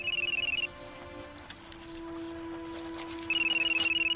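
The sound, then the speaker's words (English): A flip mobile phone wedged under second base rings with a bright, warbling electronic tone in two bursts separated by a short pause, clear over a low steady hum, with no one speaking. “Leans over to see a mobile phone wedged under second base.”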